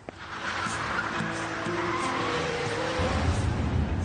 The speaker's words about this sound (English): You're driving too fast, Father. Slow down, please. We'll get into an accident, God forbid.